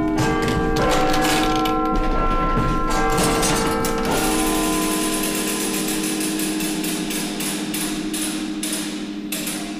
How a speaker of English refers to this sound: And I was really interested in the sound of the bells that you would hear in this room, but also the mechanics there that were commanding the bells to ring.